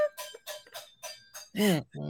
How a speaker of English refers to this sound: she's cooking. Yeah. She's doing pots and pans.